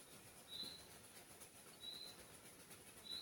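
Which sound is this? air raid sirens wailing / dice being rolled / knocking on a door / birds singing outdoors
birds singing outdoors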